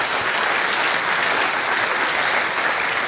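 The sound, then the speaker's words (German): Steady, dense applause from an audience after a talk about OSM, many hands clapping at once in a continuous wash of sound, fairly loud and sustained for a few seconds with no one talking. “Sieht man am Applaus, sieht man an den Herzchen und den Applaus auch im Venueless.”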